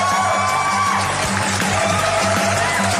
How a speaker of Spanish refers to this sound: Hay gritos nuevamente. Sí, ve, hay emoción, hay alegría.